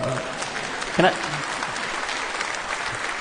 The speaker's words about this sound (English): You can clap in here, that's okay.